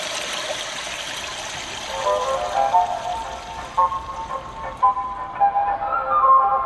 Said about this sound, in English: Japanese women were so put off by the silence in public restrooms that they'd flush the toilet over and over again to mask the noise, which worked but also used a lot of water. The solution? A device that mimics the sound of an ever-flushing toilet.